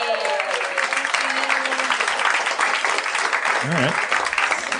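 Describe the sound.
A crowd claps steadily in dense, sustained applause filling the whole stretch, with a few faint voices and a brief wavering vocal sound near the end.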